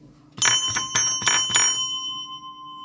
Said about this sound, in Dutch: Ga maar door, meisjes. De bel is al gegaan.